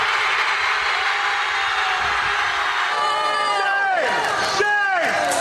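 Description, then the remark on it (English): A crowd of Columbia students lets out their traditional end-of-semester primal scream, a sustained, loud, dense roar of many voices, with long howling yells sliding downward in pitch during the final seconds. “It's a tradition to let out a primal scream at the end of the semester.”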